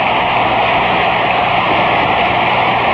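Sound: stadium crowd noise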